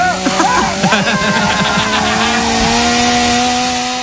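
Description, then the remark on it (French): A chainsaw runs loudly, its engine wavering briefly at first and then settling into a steady, high buzzing drone that continues without a break. “C'est à toi cette jolie tronçonneuse.”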